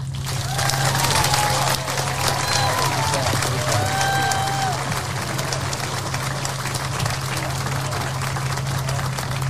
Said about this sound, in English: Can we give Chloe another round of applause?